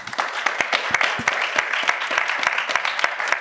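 A crowd applauds steadily, dense overlapping claps with sharp individual hand strikes popping out irregularly across the whole stretch, fairly loud and sustained without letting up.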